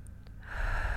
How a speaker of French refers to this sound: Prenez une première grande respiration.